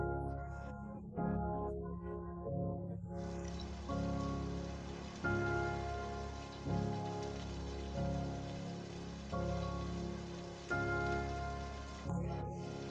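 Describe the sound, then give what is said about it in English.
Steady rain patters continuously on a hard surface, a dense even hiss throughout, layered with soft sustained musical chords that shift every second or so. “When you stop for a few minutes watching the rain, you realize that your body feels heavier than usual.”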